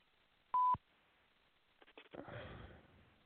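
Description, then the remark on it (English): A single short, loud electronic tone like a telephone keypad press, steady in pitch, as a phone call to Steve Wilson is being connected, followed by quiet hiss and a burst of crackly, rustling line noise. “Okay, and we're trying to connect with Steve Wilson.”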